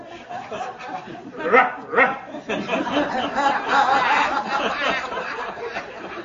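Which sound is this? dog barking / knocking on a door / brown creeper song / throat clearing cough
dog barking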